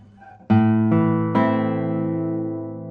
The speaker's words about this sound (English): First of all, congrats to Jialan Chen. He has built a guitar that is, in terms of balance and the loudness between the tones, the amount of overtones between the tones, a great instrument.